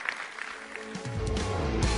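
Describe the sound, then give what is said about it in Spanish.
An audience at Iglesia La Roca breaks into applause for God: a dense crackle of many hands that swells and grows louder after the first second, with a faint tonal hum of music or voices underneath. “Si Dios le habló, denle un aplauso al Señor, que Él se lo merece.”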